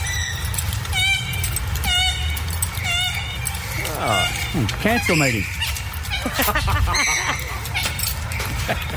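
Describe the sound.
Waterfowl, black birds with tiny red beaks, call repeatedly along a river walk over a steady low rumble: a run of short, harmonic honking notes, then a busier stretch of squawks and sweeping cries with a few overlapping voices.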